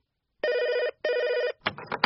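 A telephone rings loudly with a double trill, two buzzing bursts separated by a short gap, and then a voice starts speaking.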